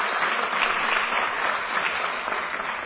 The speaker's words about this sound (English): Well, thank you for that warm word of welcome and applause.